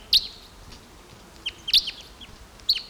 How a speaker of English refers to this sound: Some crossbills here now. There's a male. Deep voiced male here.